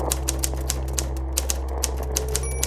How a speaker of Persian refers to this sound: از طرفی صدای ماشین تایپ را دوست دارم.